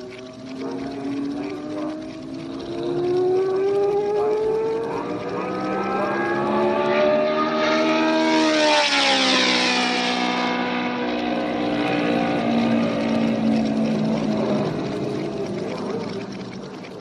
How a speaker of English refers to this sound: In the background, you can hear my Ford stock car warming up for a demonstration pass, along with several other racing cars, including an Indy Ford Lotus, several assorted Cobras, and a Grand Prix car. Here comes the Indy car now.